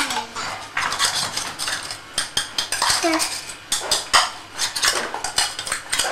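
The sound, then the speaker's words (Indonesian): A metal spoon clatters and scrapes against pots in quick, irregular bursts of sharp clanks, fairly loud, with faint voices in the background. “Masak apa? Itu. Ini. Sendok. Sendok.”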